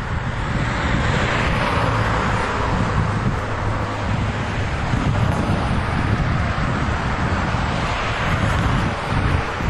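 road traffic noise

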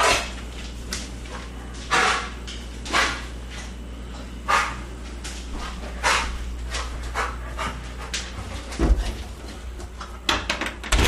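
dog drinking water

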